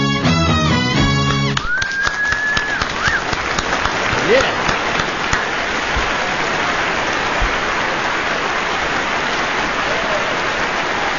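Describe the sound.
A short burst of music or voice gives way to a loud, steady thank-you round of audience applause for an orchestra lasting several seconds, with a brief whistle and a voice calling out near the start.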